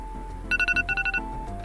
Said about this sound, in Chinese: 哎，你的闹钟响了，赶快起床！